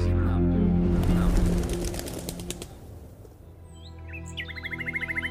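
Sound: birdsong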